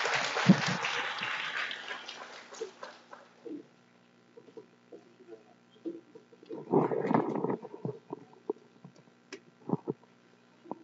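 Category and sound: crowd, audience applause welcoming speaker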